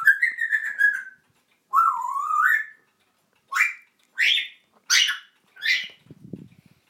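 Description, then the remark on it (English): A pet parrot, Lily Bird, whistles a warbling two-part phrase, then gives four short, rising chirpy calls in a steady series, bright and fairly loud, with a faint low rumble at the end. “I've got my little parrot here.”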